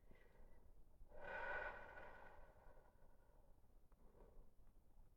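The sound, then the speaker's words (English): An airy drag of breath followed by a softer, lingering exhale, then a faint second breath a few seconds later, as someone lying in bed smokes a joint. “I'm smoking a joint.”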